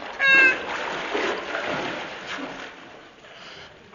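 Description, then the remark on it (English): A short, high wailing cry for help opens over a burst of splashing water as someone who cannot swim struggles in a river; the splashing churns on at moderate loudness for a few seconds before easing into a softer wash. “Help! I can't swim in water.”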